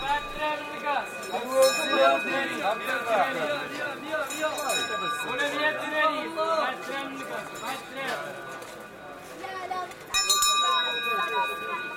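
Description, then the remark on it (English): A water seller's (girab's) small bell, his signature sound, rings in quick, repeated bright jingles in an alleyway of the Medina over the steady murmur of a busy market crowd, with voices chattering throughout and a louder burst of ringing near the end. “That's the girab, who carries a goatskin full of water and dispenses it in a brass cup to anyone who requires a drink.”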